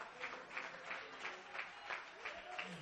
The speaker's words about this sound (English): Clap your hands and give him praise right now.